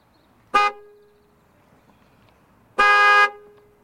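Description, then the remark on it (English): Two loud car horn blasts in a traffic jam on the Wolverhampton Road, caused by a crash between two cars down the road, in freezing cold weather: a short toot followed after a pause by a longer sustained honk, both bright and harmonic over a low hum of traffic. “This traffic jam is mad.”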